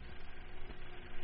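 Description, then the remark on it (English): A movie projector running, giving off a steady mechanical whir with a faint fluttering texture, continuous and even in level across the short stretch, with no voices. “That is the sound of a movie projector.”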